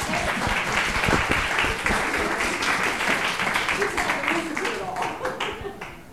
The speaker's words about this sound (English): So I think everybody should give her a clap in advance.